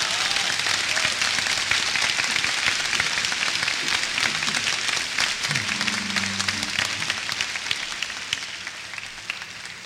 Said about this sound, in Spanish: Entonces, échale un fuerte aplauso, pues, de una vez.